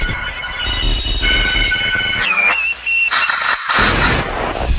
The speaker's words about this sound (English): Communication effects. Static. Tune effects.